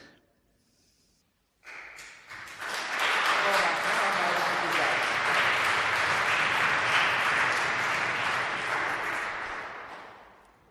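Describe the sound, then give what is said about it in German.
A crowd breaks into sustained applause after a brief quiet moment, the clapping swelling quickly to a full, dense roar of many hands and holding steady for several seconds. “Ich habe noch was in der linken Hand, aber ich habe gelernt, dass man, wenn man ein Mikrofon in der Hand hat, nicht klatschen soll. Also ich meine, Sie können das tun, aber wenn ich das tue, dann wird das laut.”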